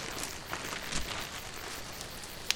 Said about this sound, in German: Na, hörst du auch, wie hier ein Feuer prasselt? Ein schönes, wärmendes Lagerfeuer.